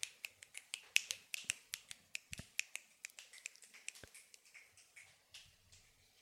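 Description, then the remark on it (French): Dozens, even hundreds, of fingers snapping, made by snake men, women and children gathered and kneeling, in a dense, uneven patter of sharp, crisp clicks that overlap and blur into a crackling wash toward the end, with no voices. “Et vous entendez des claquements de doigts par dizaines, par centaines.”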